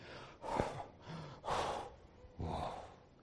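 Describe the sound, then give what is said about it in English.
A voice imitates the heavy, ragged gasping breaths of an exhausted runner collapsing at the finish line of a race: three loud breathy bursts about a second apart, unbroken by speech, like someone utterly winded. “It brings us to the finish line, where the runner is breathing hard and collapsing at the end of the race.”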